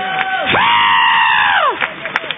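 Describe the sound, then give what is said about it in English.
A loud audience cheers as a clap offering to the Lord, with one voice letting out a long rising-and-falling whoop over the noise, and scattered claps breaking through toward the end. “Give the Lord another clap offering.”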